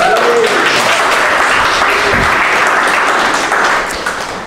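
A church audience claps together in steady, dense applause for a new intern, loud, holding for several seconds before starting to fade away at the end.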